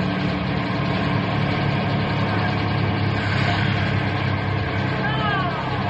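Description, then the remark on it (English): A bus engine idles in a steady, low, continuous rumble that holds an even loudness for several seconds while boys board, with a faint murmur of voices mixed underneath. “No talking until the bus gets going, so we know that everyone has a seat.”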